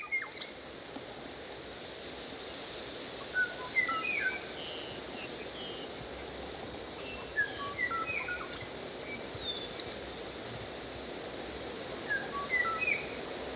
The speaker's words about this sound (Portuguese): Na ilha de Kauai, no Havaí, desapareceu a espécie de pássaro Oo de Kauai. Eram as aves mais pequeninas de todas as aves havaianas, com olhos amarelos e uma plumagem castanha ardósia, e um canto bem reconhecível e melódico.